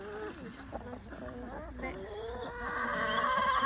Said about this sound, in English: he is a pretty boy, and he's got massive spurs. He is really strutting his stuff, but isn't he? He's a very friendly rooster. Normally roosters are like kind of mean, but you can pick him up and everything, and he's like absolutely fine about it.